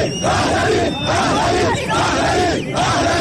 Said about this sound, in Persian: در این میان برخی از حاضران شعارهای علیه دیگران دادند. گروه دیگری هم در ستایش پادشاهان پیشین ایران که سال روز تولدشان مصادف با ایام برگزاری این گردهمایی است شعار سر دادند.